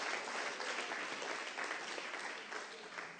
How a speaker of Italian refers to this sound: Facciamo un applauso al Signore con tutto il cuore.